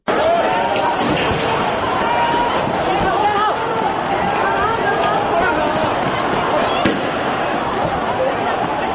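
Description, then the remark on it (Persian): A dense crowd roars and chatters throughout, with a single sharp bang cutting through near the end: tear gas fired during unauthorized pro-democracy street protests in Hong Kong, with protesters facing police. “شلیک گاز اشک‌آور در جریان اعتراض‌های بدون مجوز رسمی در شهر هنگ کنگ، چیزی که زمینه رویارویی دموکراسی طلبان و پلیس را فراهم کرده.”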